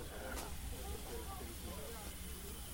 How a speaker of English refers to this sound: It's not common to see a steam train these days.